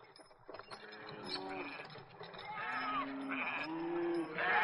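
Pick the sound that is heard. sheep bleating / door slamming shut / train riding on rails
sheep bleating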